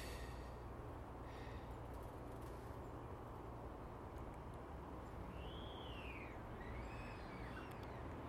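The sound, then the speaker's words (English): Faint, distant dawn birdsong from blackbirds and tits: a few soft whistled phrases rising and falling over a steady hiss of outdoor background noise, with no one talking. “All I can see is silhouettes of the birds, blackbirds. Well, we can only guess is the blue tits and great tits, etc.”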